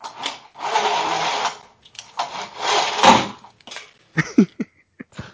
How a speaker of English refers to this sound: Sorry, I just had to close my blinds real quick. Sorry for that, it's special effects. Sound like a toy car running across the floor.